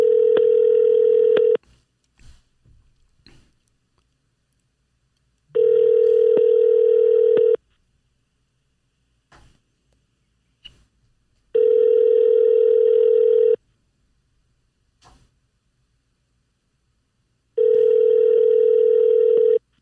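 A telephone tone on an outgoing call sounds four times, each a steady two-second buzz separated by about four seconds of silence, loud with no voices, before the call reaches a voicemail box.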